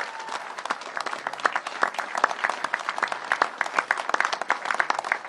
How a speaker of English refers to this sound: And again, give these people a big round of applause.